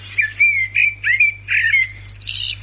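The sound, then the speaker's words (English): Eurasian blackbird song: a quick run of five or six fluting, warbling phrases, clear, with a steady low hum faintly underneath and no talking. “This is the Eurasian blackbird, right? So this is its song.”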